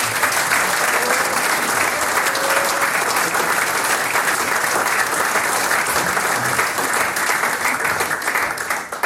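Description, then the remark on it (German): An audience in Eigen im Enstal gives sustained applause to a combined men's and women's choir, Eigenklang, a dense, steady clatter of many hands clapping at once, loud and continuous for several seconds before tapering slightly at the end. “Jetzt kriegt ihr mal einen Applaus.”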